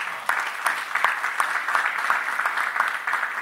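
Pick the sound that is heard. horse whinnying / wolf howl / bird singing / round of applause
round of applause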